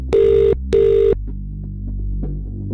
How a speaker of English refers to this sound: Phone is a ringing. Where are we going? Who is it going to be?